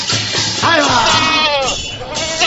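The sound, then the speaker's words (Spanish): A goat bleats loudly, a quavering, wavering cry that rises and falls over a couple of seconds against a steady background hiss. “no me dejes la cabra en doble fila, que luego se la llevan.”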